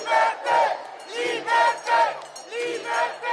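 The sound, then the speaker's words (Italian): A large protest crowd outside the Parliament (Federal Palace) in Bern chants loudly in unison, protesting the extension of the Covid certificate, voices rising and falling in a steady rhythm of repeated shouts, about two per second, filling the whole stretch. “Davanti al Parlamento gli oratori si sono espressi in particolar modo contro l'estensione del certificato Covid per accedere a varie attività, raccogliendo gli applausi della folla.”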